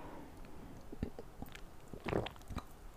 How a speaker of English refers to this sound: Excuse me, I'm going to drink my water. I have a little bit of just like feeling a little dry mouth because of this detox I'm on. So if I'm sipping water, that's why.